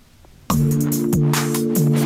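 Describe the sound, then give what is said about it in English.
A loud hip-hop beat made in GarageBand kicks in abruptly after a brief silence, with a deep sustained bassline and punchy drum hits repeating in a steady rhythm. “Turn it down a little bit. Beat goes hard.”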